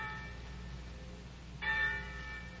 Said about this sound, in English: But every day you read the papers and heard the gossip of the village, and every day the winds carried you the clangoring of the church bells, telling the news of some great victory.